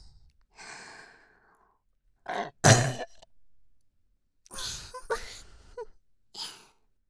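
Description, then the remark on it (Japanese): A series of burps: one loud, abrupt belch in the middle, several softer throaty ones before and after, with breathy exhales in between and no talking. “私たちのゲップ聞いて、たくさんオナニーしてください。”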